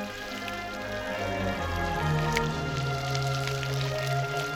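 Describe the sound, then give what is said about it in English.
Running water pours steadily from a standpipe tap and splashes down, with wet slapping and squelching as a man washes his hair and rinses himself off under it. A low hum runs underneath, and no one speaks. “As the landlord runs after her, he passes a man washing his hair under a standpipe. The man pulls his trousers down and rinses himself off.”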